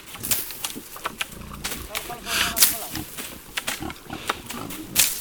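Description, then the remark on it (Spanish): Iberian pigs grunt and snuffle in an irregular series of short, rough calls, with sharper bursts scattered throughout over a faint outdoor background; they roam freely among holm oaks and cork oaks in a dehesa pasture near Cabañeros, feeding on grass and ripe acorns. “Sueltos allí entre encinas y alcornoques, estos cerdos se crían libremente, alimentándose de pastos y bellotas maduras que encuentran por el suelo.”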